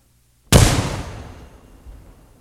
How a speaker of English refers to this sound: That was not so good. Did you hear that tinny ringing in the background? Further microphonic adjustments were made while the crew swabbed out the cannon.